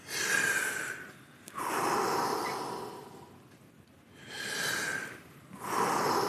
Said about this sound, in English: For that, we do 30 breaths.